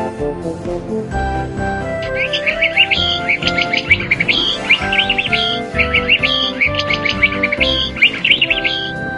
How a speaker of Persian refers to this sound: قناری. قاف مثل قناری.